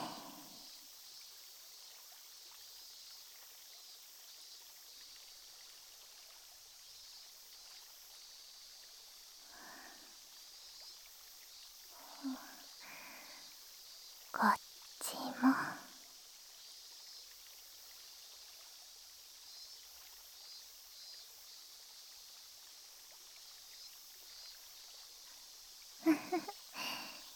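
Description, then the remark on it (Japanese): Carbonated water poured into a glass fizzes with a steady, soft hiss and fine crackling throughout, broken by a few brief louder splashy bursts from pouring. No one speaks. “シュワシュワ、パチパチって音、聞いてて心地いいですよね。”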